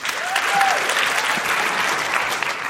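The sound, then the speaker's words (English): A sustained round of audience applause, dense and steady throughout, with many hands clapping at once and a brief whistle near the start, as the audience responds to a question about online dating. “People here who've been online dating, can you applaud women, especially if you've been dating online?”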